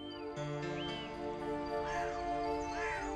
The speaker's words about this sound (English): Momotaro awoke to the birds chirping outside of his bedroom window like always